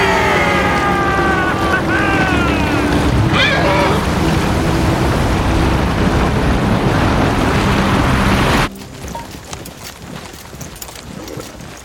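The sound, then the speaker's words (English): A loud, continuous roar of crashing sea water surges as wedges are released to turn the sea against 2,000 soldiers, with cries rising over it at first, then cuts off abruptly, leaving a much quieter background. “Instead, it's 2,000 against the sea!”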